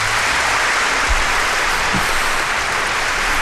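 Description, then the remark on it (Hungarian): A steady wash of applause played by the host to welcome a studio guest, dense and continuous clapping from a crowd at an even loudness throughout, with no voices over it. “Kedves népem, Fábián Julien Zuhacker a vendégünk, hölgyeim és uraim, és hirtelen egy kicsit belezavarodtam a saját technikámba, de itt a tapsom.”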